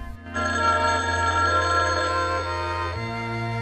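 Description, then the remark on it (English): A telephone rings loudly, a sustained bright electronic trill that starts after a brief moment of quiet and keeps going without pause as Jim ignores it. No one speaks. “He sits down on a chair, ignoring the ringing phone.”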